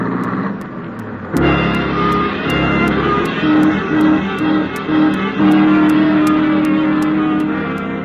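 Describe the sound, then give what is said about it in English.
A loud car engine roars, then surges and revs continuously, shifting pitch as the car accelerates hard along Sunset, fleeing a police officer who gives chase, with faint rhythmic ticking riding over the steady motor noise. “The cars race along Sunset at terrifying speeds”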